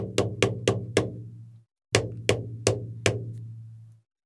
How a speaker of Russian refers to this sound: В дверь застучал.